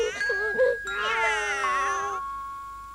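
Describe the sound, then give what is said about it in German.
A couple of short meows, then several cats meowing and yowling together in a loud, wavering chorus for about a second, cutting off into a steady high ringing tone that lingers to the end. “Wenn nun alle Katzen in unsere Laube kommen.”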